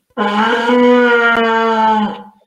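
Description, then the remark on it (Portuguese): A berrante cattle horn is blown during a livestream in one long, loud, brassy blast of about two seconds, holding a low, buzzing pitch that rises slightly early on before cutting off. “mas o Berrante está aqui, já estão falando para eu tocar o Berrante para expulsar os Minions da live.”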